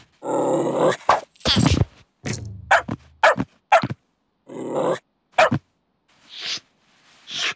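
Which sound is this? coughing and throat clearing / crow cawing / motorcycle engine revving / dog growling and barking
dog growling and barking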